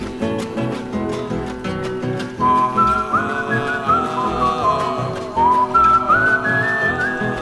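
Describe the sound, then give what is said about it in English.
A person whistles a clear, bright melody over steady instrumental accompaniment, with the tune rising and falling in stepwise phrases after a short musical opening. “He whistled and sang till the greenwood rang.”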